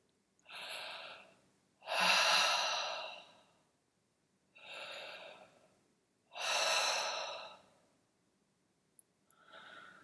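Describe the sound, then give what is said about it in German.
Slow, audible breaths in and out through an open mouth, about five airy breaths in an even, relaxed rhythm, clear with quiet pauses between them and no talking. “Wir atmen mit geöffnetem Mund ein und aus.”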